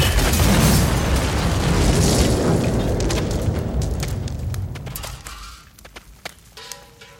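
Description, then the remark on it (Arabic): An explosive device detonates in a father's car: a powerful blast roars at full force, its deep rumbling wash slowly fading over about five seconds, then scattered sharp crackles and pops of falling debris follow. “في لحظة غفلة في سيارة الأب تنفجر عبوة ناسفة”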